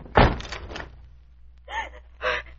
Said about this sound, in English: Do something. Try to force the door open quickly.